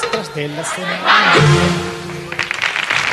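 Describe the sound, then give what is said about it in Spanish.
Audience applause, a rustling wash of clapping that swells midway and turns to scattered claps at the end, heard under a voice speaking throughout. “Gracias, minoría arrebatada, por estos aplausos que tanto me estimulan.”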